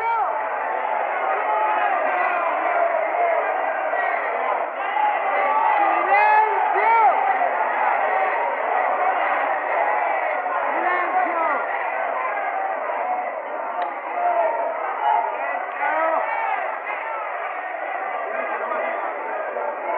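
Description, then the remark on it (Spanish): A huge crowd of about 70,000 workers at a rally roars and shouts continuously, a dense wall of many voices cheering and calling out at a steady, loud level for the whole stretch, with no pauses. “La ovación de los laburantes, dice, era ensordecedora, no los podían callar.”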